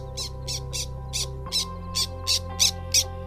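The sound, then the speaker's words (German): Black terns calling at the wet meadows by the Bevardisbach in Lithuania: a steady run of about nine short, harsh, scratchy squawks, evenly spaced every third of a second or so, over a low continuous hum. “Hörst du das? Es sind die Trauerseeschwalben.”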